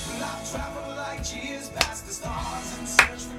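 Two sharp, crisp hand claps ring out about a second apart over steady background music, standing out clearly against the song like a clap-along.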